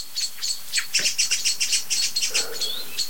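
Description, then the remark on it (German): A dense run of sharp, high-pitched bird alarm calls from many birds, including blackbirds and song thrushes, repeating rapidly in short bursts with overlapping chirps. A golden oriole, perched at the very top of a tree crown, joins in. It ends with a brief descending whistle and a lower buzzy note. “Jetzt kommt der Pyrol, setzt sich ganz oben auf die Krone, über die ganze Glocke von Alarmrufen.”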